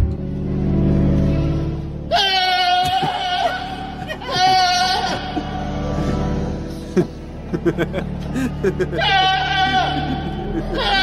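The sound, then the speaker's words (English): A goat, Pablo, bleats three times, long wavering cries that rise over steady, sustained organ chords playing underneath throughout, singing alongside organ music at a cathedral in Britain. “So I've got Pablo the Goat, who's gone viral for his incredible singing alongside organ music at a cathedral in Britain.”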